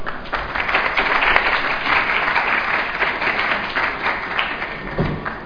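Steady audience applause, a dense wash of many hands clapping at an even loudness for several seconds, with no one speaking over it.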